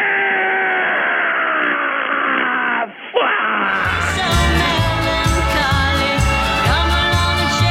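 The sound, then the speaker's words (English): An infant's drawn-out wail, thin and muffled at first, breaks off briefly and then returns fuller and louder over a pulsing musical beat. “Was that Sky Baby? I believe it was, yeah. Well, that's outrageous. That's an infant that they've got.”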